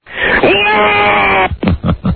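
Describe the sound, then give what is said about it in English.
A man on the air, calling in as Uncle Fester from the Addams Family, bellows a long, loud, rasping roar in imitation of a monster, holding it for over a second before it breaks into a few short, choppy vocal bursts; he roars so much he knocks himself off the air. “Oh, dear, he roared so much he knocked himself off the air.”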